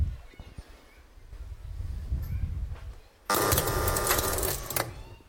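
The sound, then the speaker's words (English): A low mechanical rumble gives way to a loud, steady electric motor whirring with a faint hum as the reset motor of an electromechanical game machine makes a full turn to reset its memory. Quick clicks of its relays being released break through it before the sound stops abruptly. “And it's reset by an engine with also notches that will reset the memory. And you will see that happening now.”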